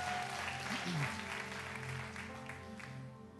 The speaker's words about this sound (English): Thank you, Victor. You're doing a great job. Thank you. Let's give Victor a round of applause.